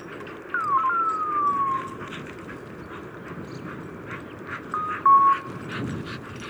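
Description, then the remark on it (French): Electronic beeper tones from the transmitter collars of a woodcock hunter's dogs: a gliding, siren-like tone early on and a short steady beep later, over a constant rustling outdoor background with wind. “Alors, ce son étonnant que je ne comprenais pas, en fait, c'est des colliers de chiens de chasse.”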